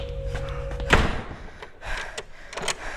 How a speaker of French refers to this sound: Je fermais la porte à clé pour me sentir en sécurité.